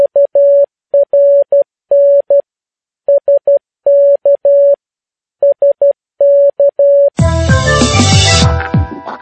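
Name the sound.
morse code tones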